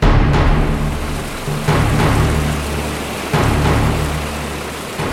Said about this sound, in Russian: И вдруг мертвую тишину нарушили звуки низвергающейся воды.